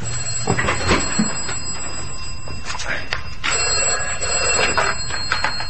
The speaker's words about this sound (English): Oh, what's that? That's the vestry phone, strange.